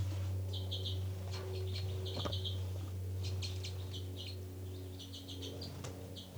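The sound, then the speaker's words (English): Very soft calls from two birds numbered 273 and 274, bird 273 calling first, then 274: clusters of quick, high chirps repeating in short bursts throughout, over a steady low hum, with no voices. “Very soft calls. 273 first, then 274. Very soft calls.”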